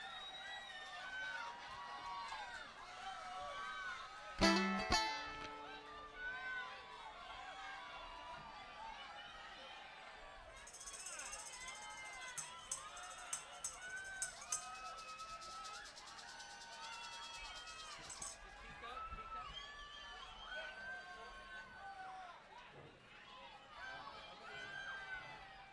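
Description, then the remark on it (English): A large live crowd cheers and shouts continuously, many overlapping voices forming a steady roar, with a sharp burst near the start and a stretch of brighter, hissing noise midway. “This is the best crowd of this size, I think, that ever there was.”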